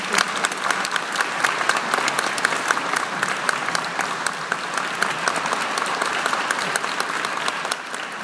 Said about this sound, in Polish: Myślę, że powinniśmy nagrodzić szczególnymi oklaskami pana premiera za to, co robi, aby czyste oblicze kultury polskiej obronić i obronić wartości, narażając się na bardzo wiele ataków tak zwanych mętnych mediów. Brawo na pana.